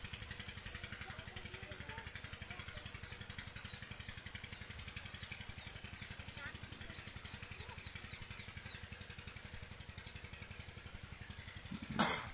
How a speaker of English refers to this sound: Our first exercise is to direct all of our attention to the water pump. Only hear the water pump and experience the sound of it.